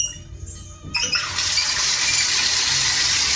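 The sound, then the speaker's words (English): A steady rush of running water, recorded on a phone taken into the shower, starts abruptly after about a second, turning into a constant, fairly loud hiss that continues without pause, like a bathtub faucet running full blast before being switched to shower mode. “Like I have the water running and then I turn it to shower mode.”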